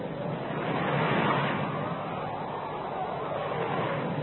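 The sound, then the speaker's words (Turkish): Rough, stormy sea surging in a steady, loud roar of churning water that barely lets up, with no voices over it. “Deniz azdıkça azıyor ve zaman artık geçmiyordu.”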